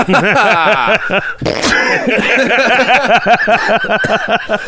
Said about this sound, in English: I believe I just want to state for the record that cough was just a good old cough.